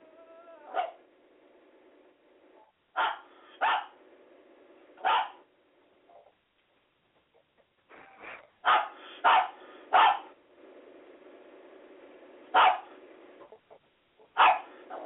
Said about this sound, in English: Dog, shut up. Yeah, dog, shut up. You hear the dog in the background. That's High Boy's. That's a dog in the background. He's just annoyed. Yeah, that's High Boy's mom's dog.